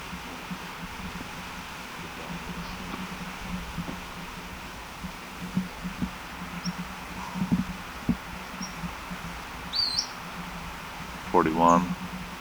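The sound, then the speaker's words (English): A bird about 40 feet up in a black oak gives a few faint, high, thin chirps spaced several seconds apart over a low steady hum and soft rustling, with a brief voice-like sound at the very end. “Maybe the second bird.”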